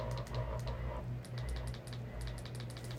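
Rapid, irregular plastic button clicks, like keys being pressed in quick succession, fairly quiet, over a steady low hum with no talking, as buttons on a device are pressed to change its setting.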